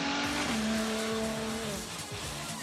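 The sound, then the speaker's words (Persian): A Ferrari hybrid sports car engine roars loudly, its pitch climbing briefly as it accelerates, then holding a steady, droning whine over rushing road noise. Electric drive assists at low speeds. No one speaks. “شتابگیری بی‌نقصه و در کمتر از 3 ثانیه به سرعت 100 کیلومتر و در کمتر از 7 ثانیه به 200 کیلومتر در ساعت میرسه.”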